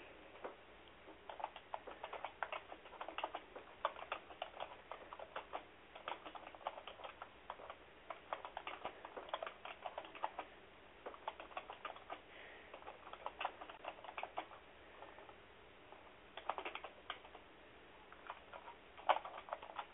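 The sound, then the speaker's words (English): Rapid, uneven clicking of keys on a computer keyboard, with short bursts and brief pauses throughout, fairly quiet, with no voices. “Sorry, I'm, like, really bad at typing today for some reason.”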